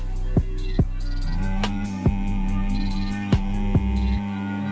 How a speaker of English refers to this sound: This diaphragm, not so much with this exercise, but anytime you do any chanting or humming, one of my favorites is.